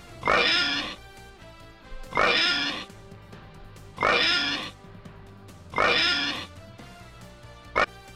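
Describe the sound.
A person imitates a pig, letting out four loud, drawn-out oinking snorts at steady intervals, followed by a brief short grunt. There is no talking.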